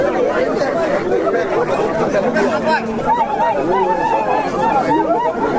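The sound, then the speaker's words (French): A large crowd roars with joy as the prefect, Lieutenant-Colonel Léonard Mbélé, presiding over the vote, announces the winner of an election: a dense, steady wall of overlapping voices, with high rising and falling shouts or ululations breaking through repeatedly throughout. “À l'annonce de son élection par le préfet lieutenant-colonel Léonard Mbélé, président du scrutin, la foule n'a pas cassé sa joie.”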